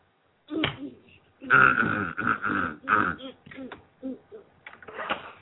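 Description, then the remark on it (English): Someone clears their throat, a string of rough, gravelly rumbles and grunting bursts over several seconds, fairly loud with brief pauses between them. “Do you want to clear your throat, just in case?”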